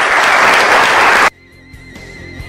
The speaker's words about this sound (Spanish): Gracias por los aplausos, compañeros seleccionados.